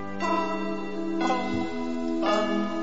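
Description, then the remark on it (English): A Christmas song opens with a slow, tolling bell: three resonant strikes about a second apart, each ringing out over sustained tones, with no singing or talking yet. “Well, here's one of the songs.”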